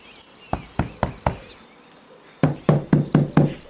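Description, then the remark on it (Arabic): In a children's story, Dabdoub knocks on the door of his home: four quick, sharp raps, a short pause, then five louder, heavier knocks in steady rhythm, with faint birdsong in the background. “أحبائي، بعد أن أكمل دبدوب قراءة الدروس مع العصفور عاد إلى البيت بسرعة، ولما طرق الباب فتحت دبدوبة له.”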